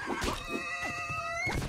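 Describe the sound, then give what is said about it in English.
A brief electronic video game effect made when a mini demon (Dais shield) teleports: a shimmering chord of steady high tones sustains for about a second over a rumbling burst, with scattered thumps and a sharp swell at the start and end. “That's a mini demon. Dais shield. And that noise means it teleports.”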